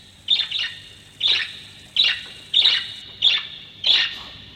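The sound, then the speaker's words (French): A parakeet calls repeatedly: six sharp, high-pitched squawks in a steady rhythm, roughly one every two-thirds of a second, fairly loud with nothing else audible. “C'était la perruche.”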